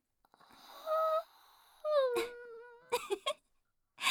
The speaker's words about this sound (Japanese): あくびが映った。 やらせるなよ。